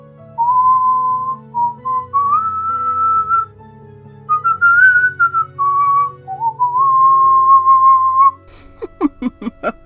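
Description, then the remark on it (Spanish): A woman alone whistles a slow, clear melody, holding long notes and sliding between pitches, then breaks off into a few short, breathy bursts that sound like giggling. “Silba melodías, canta y hasta se ríe sola.”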